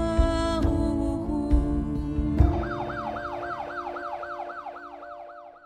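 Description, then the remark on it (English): An ambulance siren wails in fast repeating rising-and-falling sweeps, loud at first and then gradually fading as the ambulance speeds off, with traffic noise and horns underneath. “And just like that, his wife and youngest son looking on helplessly, the ambulance sped off.”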